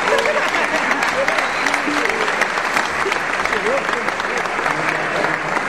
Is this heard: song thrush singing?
no